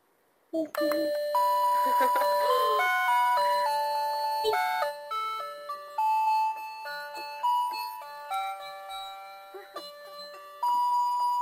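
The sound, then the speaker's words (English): An electronic doorbell, its button pressed, plays a long, bright melodic chime, stepping through a tune of clear sustained tones for several seconds, loud, with faint voices in the background. “I want you to press the doorbell.”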